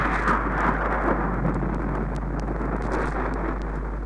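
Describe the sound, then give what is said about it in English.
A steady, deep rumble of thunder rolls on without a break, loud, with a wash of storm noise and no voices. “And when thunder roared”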